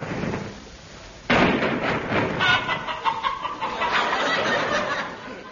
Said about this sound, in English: The sound of chickens has specially been added for people living in rural districts.